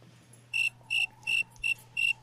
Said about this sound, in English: It's just like we're outside. You can hear the crickets. Okay, the cockroaches. That's a recording of actual crickets, though. It is a recording of actual crickets that I recorded last summer.